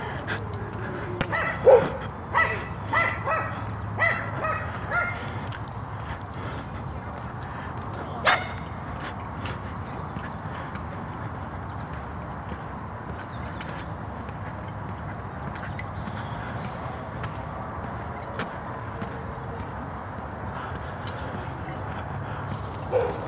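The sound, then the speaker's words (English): In the morning, a small dog yaps at a large black Labrador-like dog in a quick burst of sharp barks at the start, then lets out a couple of isolated barks over a steady outdoor background hum. “That little dog wants to take on that lab.”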